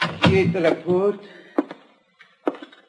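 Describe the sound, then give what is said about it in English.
After a stretch of talking, the door of a patient's room at the Hospital of Our Lady of Sorrows bumps shut with a couple of dull, low thuds, followed by a softer knock as things fall quiet. “I stepped inside and closed the door.”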